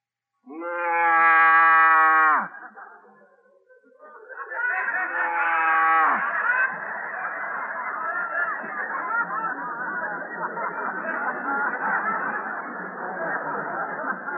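A cow moos twice: a loud, drawn-out, droning low moo that drops in pitch at the end, then a second moo that runs into a long, rough, steady noise lasting to the end.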